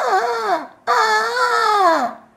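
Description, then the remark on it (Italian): A human voice imitates an alarmed ostrich with two loud, shrill, wavering shrieks: a short one, a brief gap, then a longer cry that dips at the end, with nothing else. “Beh, come canto è molto stonato, chi corre strilla tanto allarmato? Corre uno struzzo senza più freno, come se stesse per perdere il treno.”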